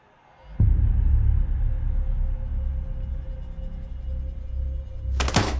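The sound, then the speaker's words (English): A laptop lid is slammed shut at a table with one sharp thunk, followed by a steady low rumble and hum, then a brief bright burst of noise near the end. “Brian slams his laptop closed and jumps up from the table.”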